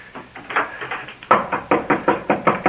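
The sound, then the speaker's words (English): Rapid, steady knocking on a door in an apartment building, a string of quick raps that turns noticeably louder and more insistent halfway through, with no voices. “Open the door”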